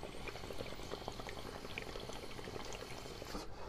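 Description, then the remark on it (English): Water bubbling steadily through a new 8-inch, slightly curved glass bong used as a dab rig, with silicone surrounding and a silicone downstem, a dense, continuous gurgle of many small pops and splashes at an even, moderate level, with no talking and a brief dip near the end. “New bong that I got. That's the official dab rig.”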